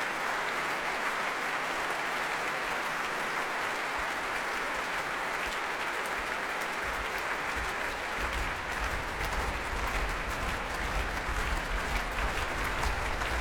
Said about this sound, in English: You can probably hear that's the power of the Prommers in the arena. They stamp their feet. And the performer has no choice but to come on stage again and play an encore.